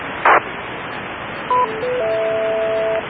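Steady radio hiss with a short crackle burst, then a brief electronic beep followed by a longer sustained two-pitch beep tone: a handheld radio beeping back a couple of seconds after being keyed. Clear and fairly loud, with no voices.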